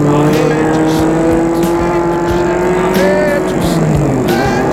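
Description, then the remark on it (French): A car engine hums steadily, its pitch sinking slightly as the car stops at a house on a property, with faint clicks and road noise mixed in. “Gilles va arrêter la voiture.”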